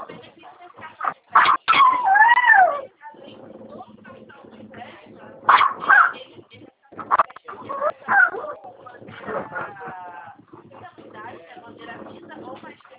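A dog upstairs yelps and whines in several short, muffled bursts, with pauses between them and a low murmur underneath.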